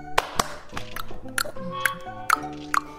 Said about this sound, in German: Naja, also man kann natürlich auch viele verschiedene Geräusche mit dem Körper machen. Das ist natürlich auch schon toll. Also mit den Händen kann man zum Beispiel schnipsen oder klatschen.